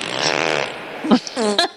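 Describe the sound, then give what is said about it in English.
A long, rumbling, buzzy fart sound effect from a free toilet simulator game stretches for about a second, followed by a couple of shorter sputtering bursts and a brief voiced snippet, fairly loud. “was you peeing and farting? Gross. No, I was using the toilet simulator.”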